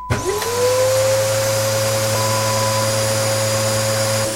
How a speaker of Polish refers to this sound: Aby nie być gołosłownym, zaraz sam przeprowadzę eksperyment i sprawdzę, ile czasu zajmuje mi odkurzenie pokoju. Zakładam, że 10 minut. No to idę.